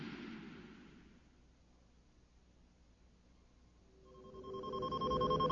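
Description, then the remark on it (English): A soft hiss fades out, then the Millennium Falcon's console gives a final electronic proximity beep, a bright, layered tone that swells louder and holds steady to the end. “The Millennium Falcon's console gave a final proximity beep, jolting Han Solo out of a light doze.”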